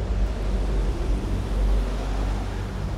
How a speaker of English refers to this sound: So there it is, traffic and tourist free, the bass hum of Stonehenge.